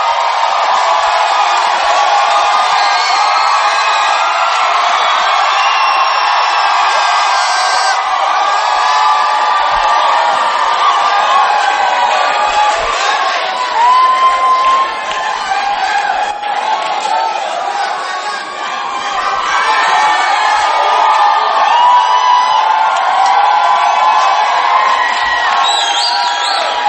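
A large crowd cheers and whoops continuously for nearly half a minute as a singing group is welcomed on stage at a love-themed evening show: a loud, dense roar of voices with scattered high shouts, dipping briefly before swelling again.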